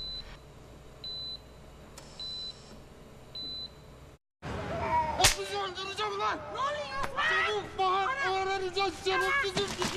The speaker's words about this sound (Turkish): sertçe tokatladı Osman hamile Hatice'yi